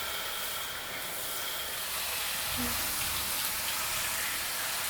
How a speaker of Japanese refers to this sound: シャワー温度で代謝も高めたいから、ゆっくりたっぷり。